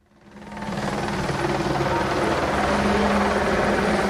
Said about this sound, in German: Erneut flogen Hubschrauber das Bondaskartal in Graubünden auf und ab. Sie waren auf der Suche nach den 8 Vermissten.